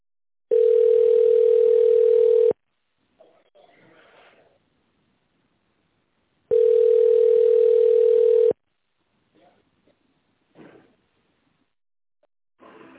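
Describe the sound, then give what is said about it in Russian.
A telephone ringback tone sounds twice while calling the company Automatica Service Group, each a steady two-second electronic hum separated by about four seconds of near silence with faint rustles and clicks. “Здравствуйте, вы позвонили в компанию Automatica Service Group. Пожалуйста, дождитесь ответа.”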